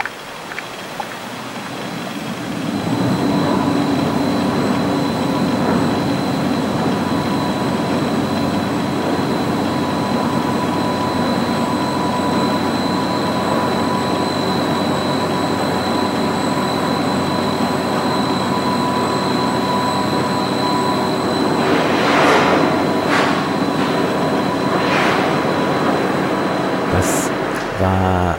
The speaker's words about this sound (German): Das waren die Maschinengeräusche aus der Staatsoper Unter den Linden, die erklungen sind, als das Orchester eben nicht ganz sang- und klanglos versenkt